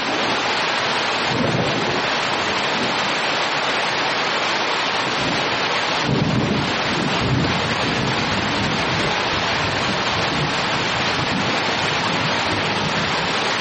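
Heavy rain pours down in a dense, steady roar during the Luanda Carnival parade in Angola, with a low rumble swelling briefly around the middle; no voices can be heard.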